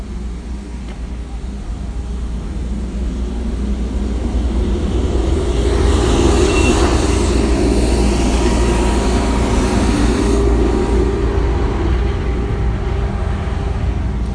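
A heavy council truck rumbles past outside, its low engine drone swelling to a peak midway and staying loud before easing slightly, with a broad hiss of road noise over it.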